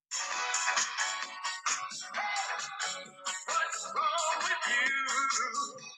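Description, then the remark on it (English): A short burst of upbeat jingle music for the "Hey, What's Wrong With You?" segment plays continuously for a few seconds from a phone, bright and thin with little bass. No one talks over it. “And that was perfect timing on your phone then to play that music, mate.”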